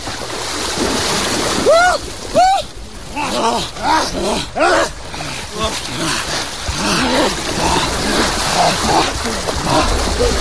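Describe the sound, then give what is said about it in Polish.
People wade and splash into cold lake water, about 8 degrees, at the start of the season, going in for the third time; a steady churning wash of water punctuated by excited shouts and yelps from several voices. “Oni już weszli trzeci raz do wody,”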